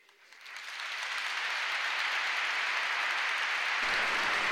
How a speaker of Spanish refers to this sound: Y la Catedral de Valladolid rompe en aplausos hacia el pregonero de la Semana Santa de Valladolid de 2022